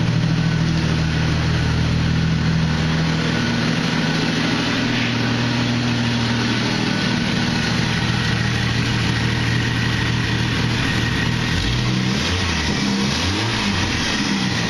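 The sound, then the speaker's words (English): A four-wheel drive vehicle's engine idles with a steady rumble, then revs up and down a few times near the end, with no talking. “No motor noise, it's like it runs beautiful. It's just a water pump.”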